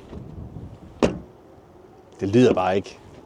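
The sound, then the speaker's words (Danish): A BMW car door, opened and closed outside, shuts with a single light, sharp clunk, followed a moment later by a brief stretch of someone talking. “Og nu prøver jeg lige at åbne og lukke døren her udenfor, fordi det gælder altså også der.”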